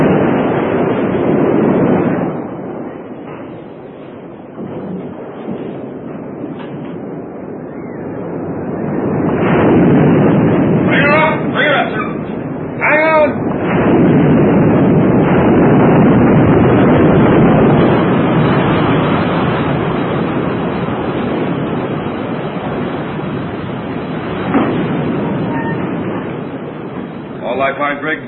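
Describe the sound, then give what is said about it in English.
A loud, continuous storm roar of heavy waves about 30 to 35 feet high crashing and surging against a ship, swelling in powerful bursts with howling wind, and a brief faint voice or whistle cutting through the din. “These waves don't bother you, huh? I surfed up to 18 feet. These look more like 30.”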